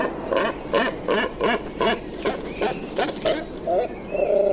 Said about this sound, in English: House sparrows make themselves at home in the town, while great cormorants congregate on big rocks near the beach.